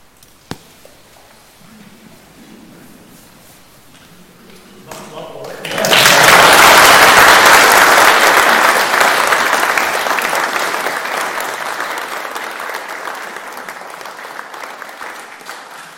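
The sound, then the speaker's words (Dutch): Applause from an audience swells suddenly after a quiet, murmuring start, then continues as a dense, sustained clatter of many hands clapping, slowly thinning toward the end. “soms is het na een concert beter dat je heel lang stil bent en dat je dan amen zegt en nooit meer klapt.”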